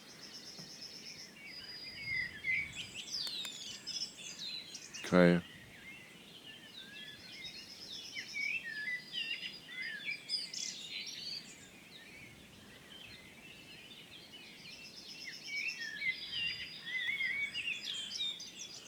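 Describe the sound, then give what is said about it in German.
A great tit sings continuously, with a blackbird also singing in the background, amid a dense outdoor chorus of chirps and whistled phrases, with one sharp knock partway through and a brief spoken word. “Kohlmeise permanent. Amsel singt auch noch im Hintergrund.”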